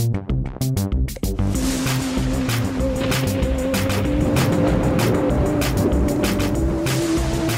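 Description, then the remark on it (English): A boat moves steadily across the water, its engine droning under a constant loud rush of waves and spray, after a few brief splashing bursts at the start. “Then they dived in a boat and sailed across the sea.”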